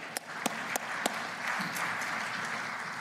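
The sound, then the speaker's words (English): Audience applause at a church welcoming back college students from UofL, Boyce, Spalding and JCTC fills the whole clip, a dense wash of many hands clapping at moderate loudness, with a few sharper individual claps standing out near the start. “And you can clap.”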